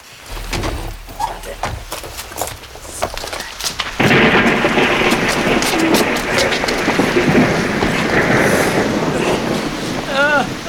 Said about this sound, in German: Blöder Regen.